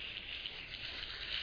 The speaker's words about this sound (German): Applaus.